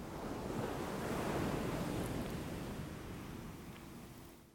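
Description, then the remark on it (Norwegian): Soft waves wash onto a beach in one slow swell that builds and then recedes, a broad, gentle hiss of surf with faint breeze and no voices. “Alt du hører nå er bølgene som slår mykt inn på stranden.”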